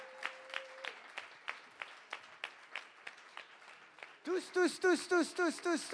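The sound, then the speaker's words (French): A crowd claps in a steady, rhythmic beat, with a brief held tone at the start; after a few seconds loud, wavering voices cheer over the continuing applause, applauding young people of Generation Z, aged 15 to 29, called up onto the stage. “Ouais, on peut les applaudir bien fort.”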